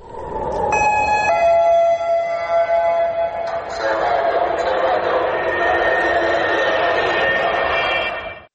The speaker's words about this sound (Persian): از سوی حملات راکتی حماس به شهرها و شهرک‌های اسرائیلی ادامه دارد. صدای آژیری که هر از چندگاهی در برخی شهرهای اسرائیل شنیده می شود. هشدار حمله راکتی.